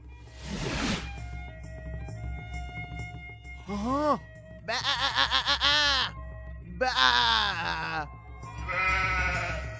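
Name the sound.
sheep bleating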